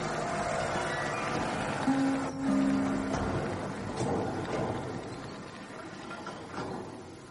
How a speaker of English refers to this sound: That'll be the tractor going down.